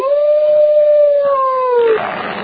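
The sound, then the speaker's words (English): A single dog howl sound effect marking the Morning Sedition Dog of the Week, loud, holding one long sustained pitch that slowly sags for about two seconds before breaking off into a rough, breathy tail. “That's why Kobe Bryant is the Morning Sedition Dog of the Week.”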